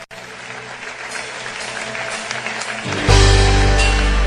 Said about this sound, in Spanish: Te aplaudimos, Jesús.